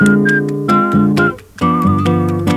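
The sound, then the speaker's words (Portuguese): A man whistles a lilting samba melody over full instrumental backing, the clear, piercing tone gliding between notes. It is loud, with a brief dip near the middle before the tune resumes. “Esse carinha que tá assobiando aí”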